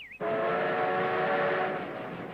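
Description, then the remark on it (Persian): A loud, sustained train whistle blasts steadily for about two seconds, its layered tones ringing over the rumble of a moving train at night, with no voices present. “آره درسته، من دیگه شب قطار سوار نمیشم.”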